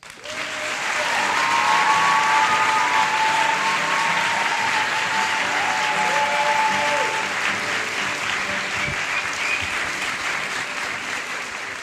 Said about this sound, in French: Merci d'applaudir très fort